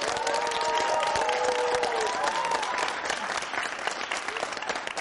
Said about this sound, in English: I'm still here at the Hall with Malcolm Butler. One more round of applause for my man, everybody.